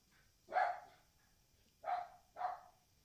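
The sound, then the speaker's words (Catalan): A small dog that guards a house out in the countryside barks three times close by, one sharp yap, a short pause, then two quick yaps in succession, with nothing else audible around them. “Bueno, saben que estem en plena naturalesa, que tenim un gosset propet, que és el que guarda la casa on estem.”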